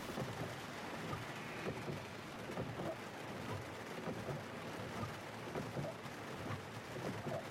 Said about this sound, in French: Phare allumé, essuie-glace énervé, je suis arrivée aux abords de la forêt. La pluie tombait toujours à verse.